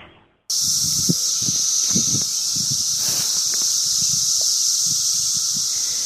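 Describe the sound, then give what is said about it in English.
A loud, steady chorus of cicadas, a summer sound, starts abruptly and holds a continuous high-pitched buzzing drone throughout, with faint low, irregular sounds scattered underneath. “Cicadas. It might be heating up here in the Northwest, but that is one summer sound that we don't have.”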